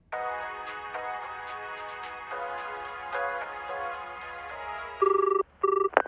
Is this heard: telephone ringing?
yes